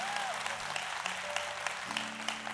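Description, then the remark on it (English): A Go Church audience claps steadily while greeting one another, a dense, continuous wash of applause, with a sustained low musical tone running underneath throughout. “Let's clap and greet one another like we've never done it before.”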